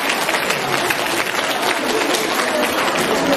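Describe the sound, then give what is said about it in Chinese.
An audience applauds steadily in thanks to Master Lu Junhong, dense clapping from many hands filling the whole stretch at a constant, fairly loud level without pause. “让我们再次用热烈的掌声感恩大慈大悲的卢军宏台长。”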